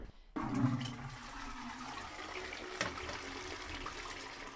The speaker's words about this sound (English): Now, we have a big problem here, because sometimes when you flush the loo, the sewage comes back up. Back up, yeah. It comes just when you're flushing it, yeah, and you just look back and see, just it comes right up to the brim sometimes.